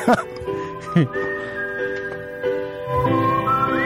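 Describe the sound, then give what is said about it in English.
A whistled melody of sustained, gently sliding notes opens a 1978 song, riding over a soft musical backing, steady and moderately loud throughout, with a faint 1970s recording hiss underneath. “It's from 1978, and it actually starts right in with whistling.”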